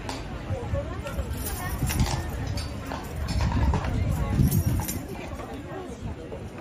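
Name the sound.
horse hooves clip-clopping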